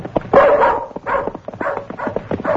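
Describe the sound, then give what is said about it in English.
The dog Bullet barks repeatedly in a quick, excited series of sharp yips and woofs, fairly loud, with no talking. “What makes you think that dog of yours can trace Matt Fent?”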